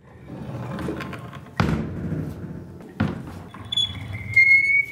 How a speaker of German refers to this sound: Wer den schwülen Großstadtsommer hinter sich lassen möchte, der trete durch diese knarrende, schwarze Holztür.